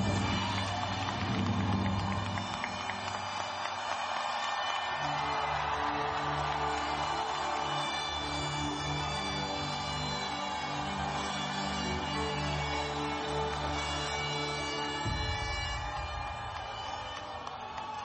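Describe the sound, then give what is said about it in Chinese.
A large crowd cheers and shouts loudly and continuously for Taiwan at Tsai Ing-wen's call, a dense roar with steady tonal horn-like or musical notes underneath, easing slightly near the end. “所以在这里我跟大家说，如果大家真的很高兴，那我们就大声的为台湾欢呼一次，好不好？”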